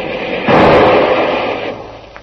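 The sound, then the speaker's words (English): A single loud shot from a Garand rifle, fired back at pursuers, cracks out and rolls away in a long echoing tail, followed by a faint click near the end. No one speaks. “Hand me that Garand rifle, Kolo.”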